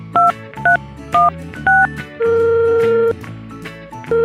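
Four quick, evenly spaced touch-tone beeps as a phone number is dialed to set up a conference call, followed by a longer steady ringing tone that starts again near the end, clear.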